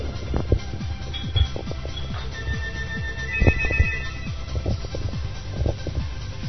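A phone rings with a bright electronic ringtone for a few seconds in the middle, over a busy bed of low thumps and clatter, with no one speaking; a call coming in during a live broadcast of a game match.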